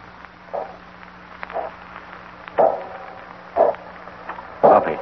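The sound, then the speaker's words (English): The wheel of a contraption is set in motion, letting out a rhythmic series of creaky squeals about once a second that grow louder toward the end, over a low, steady droning hum. “They've set some of the contraption in motion. Yeah, that wheel is moving.”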